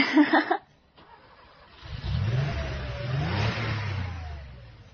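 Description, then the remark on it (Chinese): After a short clatter and a brief pause, a motorcycle engine roars to life and revs hard, its low rumble climbing and sweeping in pitch as the rider opens the throttle wide, loud and steady to the end. “他把油门拉得挺大，于是野狼被惊跑”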